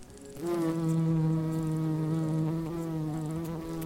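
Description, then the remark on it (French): A bee buzzes steadily, a continuous droning hum that starts abruptly and holds its pitch with slight wavering throughout, with no voices present. “Aujourd'hui, une abeille peut visiter jusqu'à 700 fleurs en une seule journée et produira au cours de toute sa vie à peine une goutte de miel.”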